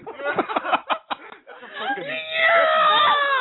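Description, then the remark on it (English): A person vocally imitates a megalodon's cry: a few choppy, clipped vocal bursts, then a loud, sustained, strained screech that rises and holds until the end. “Megalodon is an underwater animal and does not scream.”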